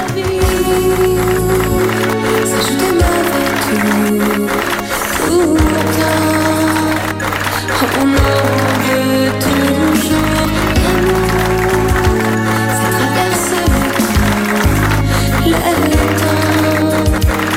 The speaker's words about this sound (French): Attention, on va mixer un peu d'applaudissements. En canne.